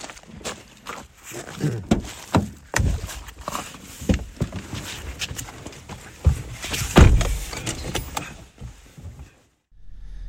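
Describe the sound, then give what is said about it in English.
Rustling and shuffling of two people climbing back into a car out of the cold, with scattered thumps and a heavy door slam near the end, then a brief quiet. “Woody and I just got back in the car after being out there for not even 2 minutes”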